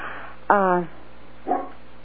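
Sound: dogs barking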